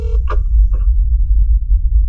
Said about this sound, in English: On the voice's end, a ringing is heard on a speakerphone. Someone answers, and the voice responds.